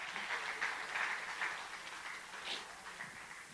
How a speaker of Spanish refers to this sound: Dale ese aplauso a Dios.